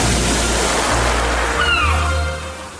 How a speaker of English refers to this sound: I'm having a bit of a rest today, swimming in the warm Aegean Sea around the Greek islands. It's beautifully blue and warm, perfect for relaxing.